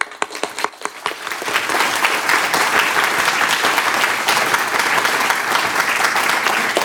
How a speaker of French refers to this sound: Et puis, on va t'applaudir tous ensemble.